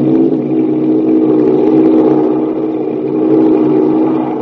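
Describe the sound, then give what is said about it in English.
A silver Douglas 14-berth sleeper plane, the American Airlines flagship, roars steadily as it speeds down the runway and lifts off, starting its flight to New York. The engines make a loud, low droning hum with a rough texture that swells slightly and holds, with no voices. “Speeding down the runway, the silver plane glides into the air.”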